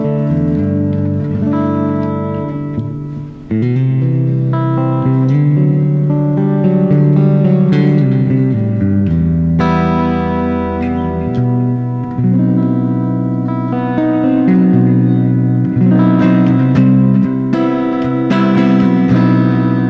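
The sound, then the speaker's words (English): A clean, bright Fender electric guitar with a glassy tone from two pickups plays a steady run of chords and picked notes, fairly loud, ringing continuously with no voices. “Two pickups to get the glassy sound.”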